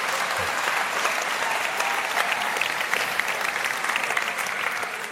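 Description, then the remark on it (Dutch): An audience at a worship gathering applauds a youth band steadily for about five seconds, a dense, even wash of many hands clapping with no single claps standing out and no voices on top. “Ik hoor een voorzichtige klap, maar daar mag best even wat meer hoor, ja.”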